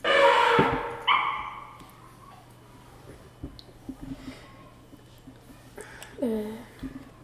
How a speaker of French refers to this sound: Ce que vous venez d'écouter est le cri de l'éléphant.